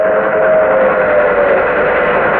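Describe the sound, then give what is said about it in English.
A loud, sustained old steam train whistle blows steadily for a couple of seconds, a thick, breathy tone over rushing steam noise, unbroken, with no voices. “The train coming. It's an old steam train.”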